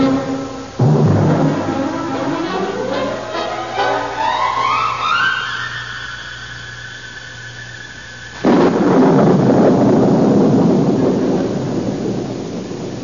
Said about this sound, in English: come in out of the rain.